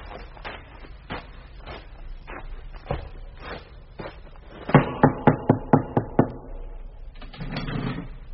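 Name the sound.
knocking on a gate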